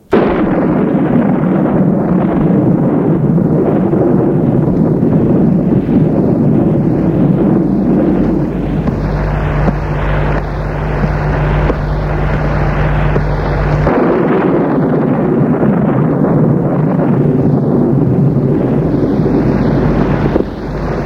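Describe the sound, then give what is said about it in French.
A loud thunderstorm roars throughout, with deep rolling rumbles of thunder blending into steady gusting wind. No voices are heard. “Une chambre qui semble prise par le tourbillon de l'orage.”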